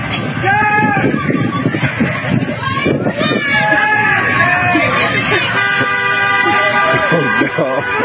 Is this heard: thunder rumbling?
no